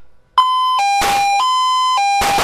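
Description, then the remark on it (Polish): An electronic start signal at a police shooting competition, on which officers draw guns from holsters and fire at a receding target: a loud, steady two-tone beep alternating between a higher and slightly lower pitch, with bursts of harsh noise breaking in twice. “Na sygnał dźwiękowy policjanci dobywają broń z kabury, oddają strzały do oddalającej się tarczy.”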